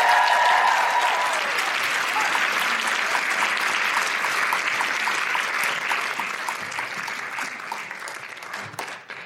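A crowd applauds steadily, a dense wash of clapping that holds loud for several seconds and then gradually thins and fades toward the end. No one speaks over it.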